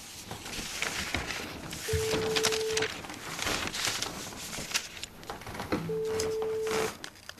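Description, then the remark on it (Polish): A call to a mobile phone ringing out unanswered: two long, steady ringback tones spaced several seconds apart, heard over a busy, hissy background with no one picking up. “on nie odbiera komórki.”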